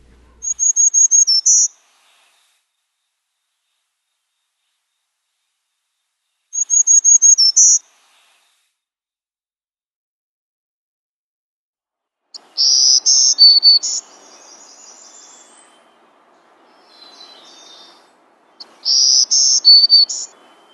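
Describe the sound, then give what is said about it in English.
A black-throated green warbler sings high, buzzy phrases, repeated about five times with long pauses between, clear, with faint background hiss in the later part and no talking. “The next song we're going to hear from the black-throated green is zoo zee zoo zoo zee.”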